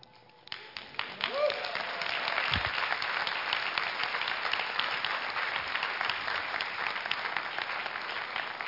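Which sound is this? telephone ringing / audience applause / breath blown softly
audience applause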